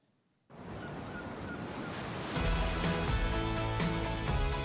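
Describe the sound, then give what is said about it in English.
After a brief silence, a steady roar of surf crashing against Breaker Rock at Breaker Rock Beach washes in loudly and continuously, and about halfway through, bass-heavy music with a beat joins over the waves. “Every day at Breaker Rock Beach, you'll get to explore tide pools, spot orcas, fly kites, and watch the mighty waves crash up against the immovable Breaker Rock.”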